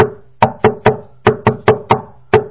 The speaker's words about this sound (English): If one would knock in a way which has sort of a musical rhythm to it, we'll illustrate the way to knock on the door, which would be also, would be, let's say, something like this.